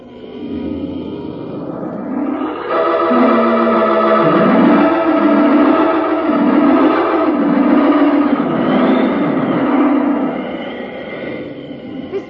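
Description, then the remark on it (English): A loud storm wind carrying dust roars and howls around a vehicle travelling in a convoy, swelling up after a couple of seconds into a steady, droning rush with a wavering, moaning tone that holds until the end. “Keep out the wind and the dust, but it doesn't keep out the noise.”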